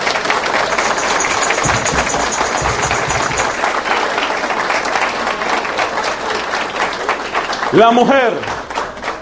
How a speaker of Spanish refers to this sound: Y por eso, por favor, caballeros, hacen el favor, no me hagan quedar mal, vamos a dar un amoroso aplauso a las mujeres que están aquí presentes.